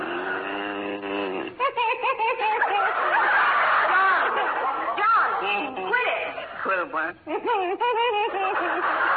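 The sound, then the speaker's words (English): A man's voice imitates loud snoring, with drawn-out, wheezy, snorting breaths that rise and fall in pitch and come in repeated bursts, prominent with no other sounds. “there must be something that'll put a stop to that hideous snoring.”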